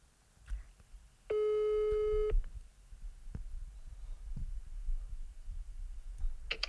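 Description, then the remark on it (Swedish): A single steady telephone ringback tone sounds for about a second while a call is being placed, a clean harmonic-rich beep over low background rumble and faint clicks, with no one speaking. “Jag ska ringa nu och sälja in en slott i mitt sommarprat i Alexander Pärleros.”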